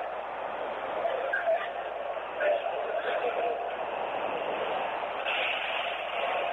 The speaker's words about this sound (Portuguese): As pessoas tentam entrar, a porta do trem do metrô abriu novamente, fechou. O trem tá parado aqui.